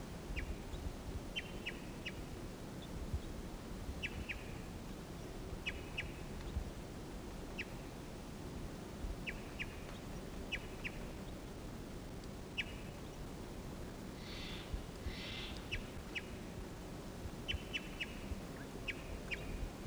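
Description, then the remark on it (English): A wild male bird sings in repeated short, bright chirping phrases, each a quick burst of high notes, spaced every second or two over a steady low rumble of background noise. No one speaks. “Here's a wild bird. Wild male singing here.”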